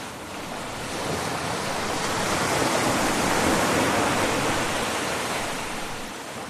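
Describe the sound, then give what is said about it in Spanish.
Sea waves break and wash onto the shore in a steady, hissing roar that swells to a peak midway and then slowly recedes. No one speaks. “Pero la verdad es que los que vivimos lejos de la costa, yo creo que una de las cosas que más echamos de menos cuando regresamos de pasar unos días junto al mar es esto.”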